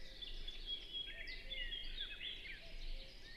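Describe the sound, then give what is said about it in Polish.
Several birds sing and chirp continuously in a quiet cemetery, their overlapping high trills and tweets layered over soft background hum, with no one speaking. “I nie będę ukrywał, jestem zaskoczony ilością ptaków, jakie można tu zobaczyć.”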